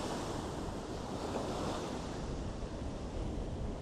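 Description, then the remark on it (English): Ocean waves on the Pacific coast wash steadily onto the shore in a continuous, fairly loud roar, with gusty wind on a windy, cold day buffeting the microphone and no voices. “It's an absolutely gorgeous view on the Pacific coast.”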